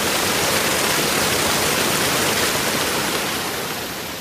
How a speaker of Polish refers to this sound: Prawdziwa kipiel! Tak, dokładnie. Takich miejsc no niewiele możemy na nizinach spotkać, jak właśnie tutaj, w tym miejscu. I ta mgiełka, która się unosi tutaj nad tą kipiącą wodą w słonecznej pogodzie.